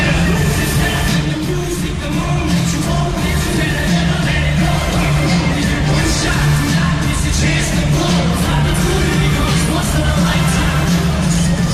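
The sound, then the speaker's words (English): A live Eminem stadium concert at Optus Stadium in Perth before a sold-out crowd of 60,500 fans, heard from two suburbs away: amplified music with a steady, dense wash of crowd noise, continuous and fairly loud throughout, with no break or pause and no clear speaking voice. “performing live at Optus Stadium in front of 60,500 fans”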